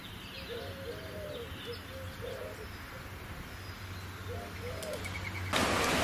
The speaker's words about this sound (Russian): А вот эти гули, они курлычут.